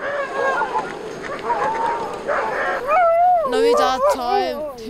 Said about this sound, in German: Wenn wir eine Tour starten, werden die Hunde total aufgeregt. Sie wollen unbedingt mitkommen. Freudig wedeln sie mit dem Schwanz.